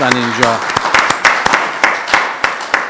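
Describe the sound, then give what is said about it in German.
A group at a church service applauds steadily, dense overlapping claps forming a crackly, even patter with a few sharper hand slaps standing out, after a brief voice at the very start. “Ich glaube, da dürfen wir auch mal klatschen.”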